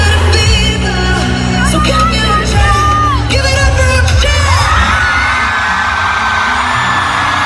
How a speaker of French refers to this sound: Voilà, donc une foule en délire, évidemment.